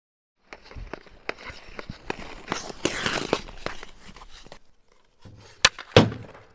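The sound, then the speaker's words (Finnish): A lone ice hockey player practices shots on a rink after a game: a string of sharp stick-on-puck cracks and thunks at irregular intervals, with a hissing skate scrape in the middle and two louder slaps near the end. “Haluan vain vielä vähän treenata laukauksia.”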